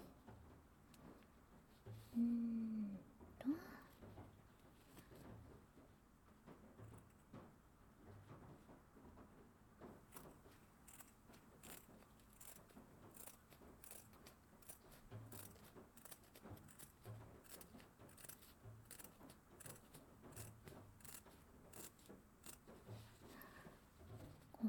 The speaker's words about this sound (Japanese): まずは、手玉の布をちょうどいい大きさに切っていくね。さてさて、このぐらいかな。ハサミで、